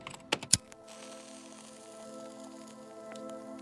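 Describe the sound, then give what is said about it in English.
A few sharp keyboard clicks come close together near the start, followed by fainter, sparse key taps over a steady low electronic hum, as commands are entered on a computer connected via SprintNet to a Citibank cash-management computer to transfer money. No one speaks. “A few clicks on the keyboard, and Vladimir will be a very rich man.”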